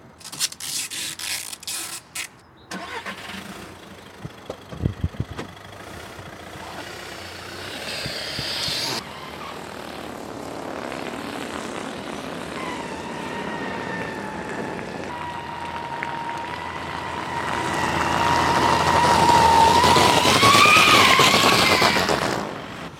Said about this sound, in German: Fazit, es ist getuned, wie es aussieht, okay, ist eher zweifelhaft. Im Original sollte es etwas mehr knattern, so richtig wie so ein Sportwagen eben. Aber ein blubberndes Auto, das hat jetzt auch niemand.